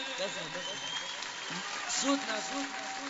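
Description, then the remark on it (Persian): A crowd claps continuously, a dense steady patter of hands, while several voices chant, call out and ululate over it for the whole few seconds. “بذار فقط صدای دست زدن شما و کل زدن خواهرم.”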